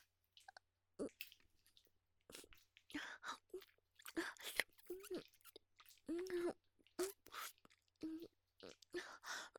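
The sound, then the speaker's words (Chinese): Wet chewing and squishing mouth sounds of someone chewing Chinese herbal medicine, to soften it before applying it to a donkey, come in quick irregular bursts, with a few brief muffled hums from the throat mixed in, over a quiet background. “你问我嘴里含着什么呀？我在咀嚼草药呢。”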